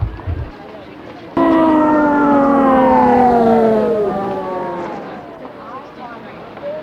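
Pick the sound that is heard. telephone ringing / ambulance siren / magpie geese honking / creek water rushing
ambulance siren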